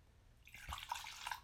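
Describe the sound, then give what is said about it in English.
Wine pours into a glass in a short, steady stream, with soft gurgling and bright trickling splashes. It begins after a brief pause and stays fairly quiet, with no talking. “And here, take your glass. And we'll pour the wine.”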